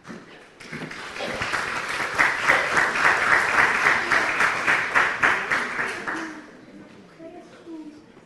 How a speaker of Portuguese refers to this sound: Muito obrigada pela confiança antecipada através das palmas.